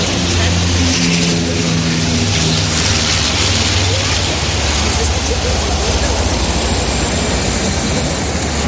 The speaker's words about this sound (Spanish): Es el sonido de los aviones militares que están realizando hoy el primer ensayo del desfile del próximo 12 de octubre con motivo del Día de la Fiesta Nacional.